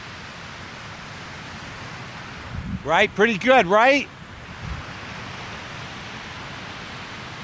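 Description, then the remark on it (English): Steady ocean surf washes ashore continuously in the background, a constant broad hiss of waves, while a man briefly speaks over it partway through. “Why not just listen to the sound of the waves?”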